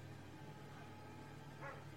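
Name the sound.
dog barking and yipping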